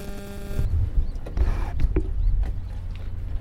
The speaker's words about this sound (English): Let's just listen to the sound of pit water for a while, I think.